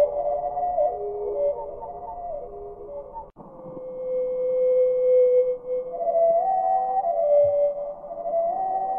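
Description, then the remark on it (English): North American hermit thrush song slowed down, its notes stretched into low, sustained fluting tones that glide and shimmer one after another, with no voices. “We're going to hear it at normal speed and then slowed down.”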